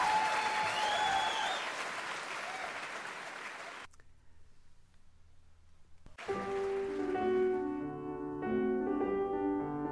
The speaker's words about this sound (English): She turned him to face the crowd. 4 times the audience began to clap and cheer again.